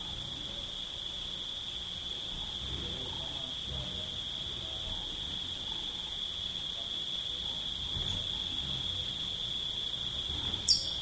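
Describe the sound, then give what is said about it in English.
Cicadas drone in the background, a steady, high-pitched buzz that holds unbroken for the whole stretch, with faint low rumbling and muffled activity underneath. “Cicadas in the background.”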